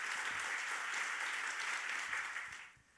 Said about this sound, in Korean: 교수님께서 나오셔서 부르심은 사명이다라는 말씀으로 우리에게 귀한 은혜 주실 텐데 우리 환영의 박수로 귀한 말씀 청해 듣도록 하겠습니다.